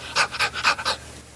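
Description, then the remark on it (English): A voice imitates the breathy, voiceless barking of dogs whose vocal cords were cut so they could not bark: four quick, airy huffs in an even rhythm, moderately loud, with no speech around them. “She had cut their vocal cords, had their vocal cords cut, and they couldn't bark. They could just go, and I suppose if they could have barked, they'd have kept us awake day and night.”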